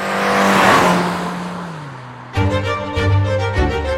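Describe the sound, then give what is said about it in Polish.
A loud car engine roars with a broad screeching burst like tires squealing, its pitch sagging as it fades, before music abruptly cuts in at the end. “To trochę jak pewien bawarski producent samochodów jest dziś oceniany przez pryzmat części jego klientów odzianych w ortalionowe ciuchy.”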